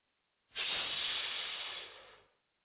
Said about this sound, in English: He stood up to leave and tossed a few coins from his pocket into the fountain without looking back. As the coins hit the water, there was a loud hiss of steam as the small red-hot coins sank to the bottom and seared the padded floor.